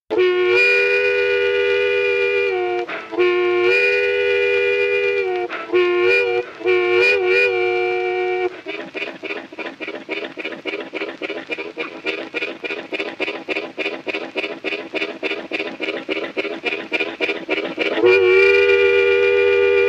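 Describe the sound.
A harmonica imitates a train in a train-harmonica piece named after the Pan American railway linking Nashville and Louisville: long wailing whistle-like chords, then a fast rhythmic chugging of pulsed breaths that speeds along steadily before a final sustained whistle blast. Loud, no voices.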